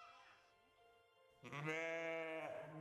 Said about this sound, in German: Und gegenüber von uns konnte ich Schafe hören.